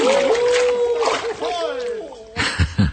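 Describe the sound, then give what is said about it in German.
Voices cry out in drawn-out, wavering shouts, then a couple of loud splashes burst in near the end as people dressed as Santa Clauses jump into icy water. “Keuchend und prustend schwimmen die Weihnachtsmänner im Eiswasser.”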